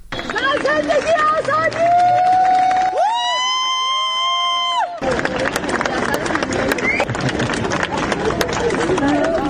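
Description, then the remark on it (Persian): A dense crowd at Tehran airport cheers and claps as film director Jafar Panahi arrives early in the morning, two days after winning the Palme d'Or at Cannes, with many voices shouting at once and a long sustained chant or shout rising above the noise midway before scattered applause continues. “بر اساس ویدیوهایی منتشر شده در شبکه‌های اجتماعی، جعفر پناهی دو روز پس از دریافت جایزه نخل طلای جشنواره فیلم کن، بامداد امروز وارد فرودگاه تهران شد و مورد تشویق مردم حاضر در آنجا قرار گرفت.”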